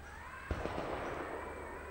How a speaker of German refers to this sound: Tak, tak, tak, tak, tak, tak. Habt ihr das gehört? Ui, jubelte die Polari. Ich hab's gehört. Ein Maschinengewehr, belehrte Job uns. Da oben werden Hochalpenmanöver abgehalten. Ein Maschinengewehr auf der Diavolezza.